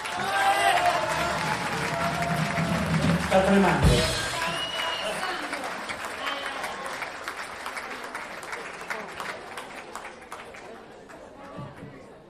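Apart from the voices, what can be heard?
audience applause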